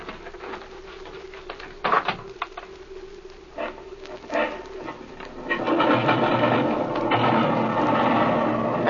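An airplane engine is cranked over at an airfield at an elevation of over 7,000 feet: a steady mechanical whir with irregular clicks and clanks, then about halfway through it catches and swells into a louder, rougher, continuous roar.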